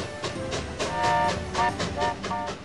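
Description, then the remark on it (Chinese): A train bound for Sunlight Island clatters steadily along the rails, its wheels thumping in a regular, quick rhythm over a continuous mechanical hum, moderately loud, with no voices. “迪克又上了去日光岛的火车。”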